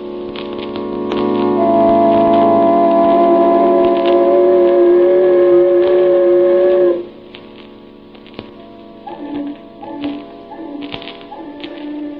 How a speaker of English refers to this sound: Does the mournful sound of the foghorn haunt your dreams of a rainy night in March?